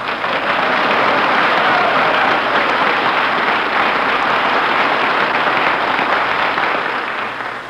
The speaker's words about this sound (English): Gee, was that applause for me? No.